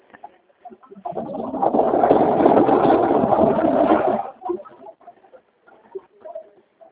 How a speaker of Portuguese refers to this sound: Espera um pouquinho, já tem um caminhão manobrando aqui perto.